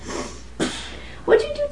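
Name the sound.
nose blowing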